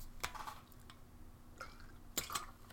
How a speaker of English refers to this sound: I got to take a little bit of a drink of water here.